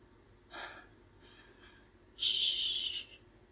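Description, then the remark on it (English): Heavy, ragged breathing: a sharp breath, then a softer one, and a long loud rasping exhale near the end. There is no talking, only faint background hiss. “Stop breathing so heavy.”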